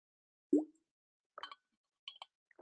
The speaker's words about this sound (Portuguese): E o último passo da última segunda-feira, deixa-me só beber um gole de água antes que comece para aqui a engasgar-me.